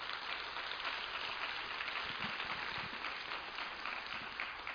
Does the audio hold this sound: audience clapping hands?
yes